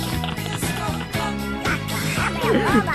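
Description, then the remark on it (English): A squawky, garbled cartoon-duck voice impression sings a 1976 chart-topping disco song over a loud, steady disco beat with thumping bass, the quacking vocal warbling most prominently near the end. “He's got the perfect Donald Duck impression.”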